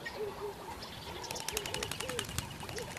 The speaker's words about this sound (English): The only water remains in a shrinking dam, where hundreds of birds flock to drink.